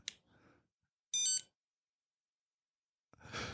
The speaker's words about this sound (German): Dieses lustige Geräusch im Hintergrund. Ach, das ist Telefons Carsten, was klingelt.